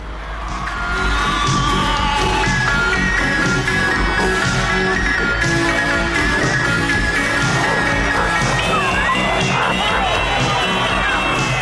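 A large crowd shouts and cheers continuously at a concert, a dense roar of many voices with high yells and whoops rising above it, loud and sustained throughout.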